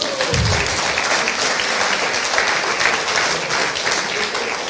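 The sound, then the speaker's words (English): A crowd claps steadily and loudly for several seconds, a dense, continuous wash of applause with no break and no one speaking over it. “Give some of these ladies a round of applause.”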